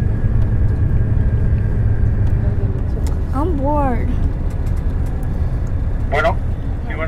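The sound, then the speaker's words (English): A steady, heavy engine rumble of a bus in motion on a bus line fills the whole clip, a loud low drone, while a person speaks briefly over it partway through. “The thing about traveling on these bus lines, every time we pull into a station, we wonder, what will the next bus be like?”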